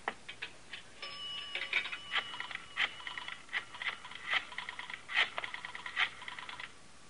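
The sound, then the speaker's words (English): A telephone being dialed to make a quick call: crisp mechanical clicks arrive in quick bursts separated by short pauses, repeating steadily for several seconds with no one speaking. “Have I got time to make a quick call?”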